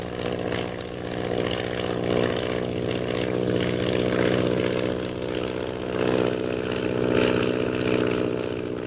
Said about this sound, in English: Shanghai Lil zooms skyward with the intention of climbing above the mysterious purple triangle plane unnoticed.